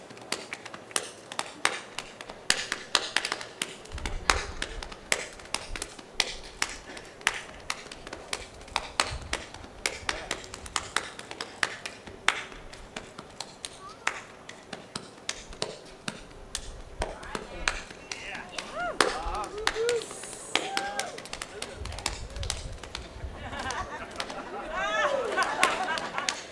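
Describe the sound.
Hambone body-slapping percussion: fast, steady, rhythmic slaps and pats on the body, sharp and continuous throughout, with a voice briefly joining in toward the end.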